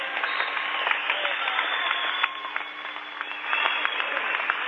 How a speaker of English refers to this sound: The fans appreciate it. Amherst fans not only applauding